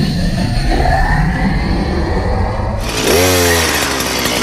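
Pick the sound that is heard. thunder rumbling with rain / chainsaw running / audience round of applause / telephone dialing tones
chainsaw running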